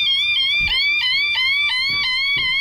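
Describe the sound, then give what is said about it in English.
A person imitates a car alarm with their voice for an online car alarm challenge, producing a loud, warbling electronic-like tone that repeats in quick rhythmic cycles, with soft breathy bursts between some cycles. “People reenacting car alarms with their voice like this.”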